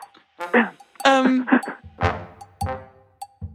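A voice imitates a dog barking, giving several short, loud woofs in an uneven rhythm, with no other talk around them.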